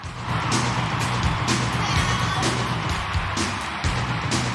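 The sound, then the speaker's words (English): A large, excited concert crowd cheers in a steady, loud roar of mingled voices with bursts of shouting, sustained across the whole stretch over a low humming undertone. “Then a performance in front of a large, excited crowd.”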